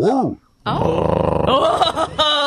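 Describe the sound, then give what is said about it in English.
A person imitates a dog, giving one short vocal woof, then after a brief pause launching into a long, loud, rumbling growl that pulses and rasps for a couple of seconds. “Give me a woof gurr.”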